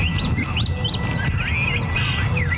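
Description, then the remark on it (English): Several birds chirp and sing at once, quick overlapping tweets and trills over a steady low outdoor rumble, continuous with no one talking. “America's bird population is on the decline. There's less of this across the country, especially the American Southwest.”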